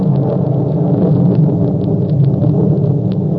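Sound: rolling thunder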